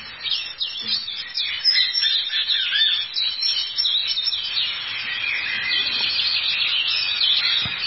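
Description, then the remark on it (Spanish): Verdulejo tanager calls, a dense run of high, thin chirps and twittering notes that carries on steadily through the whole stretch, bright, with no voices. “Y este otro traupido, el verdulejo, suena así.”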